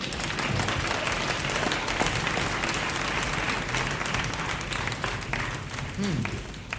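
Sustained audience applause, a dense wash of many hands clapping at steady loudness for several seconds, with scattered crowd noise mixed in.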